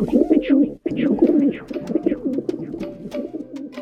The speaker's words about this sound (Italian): Ed è grazie a loro che oggi le nostre città sono piene di piccioni.